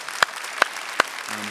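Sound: audience clapping in welcome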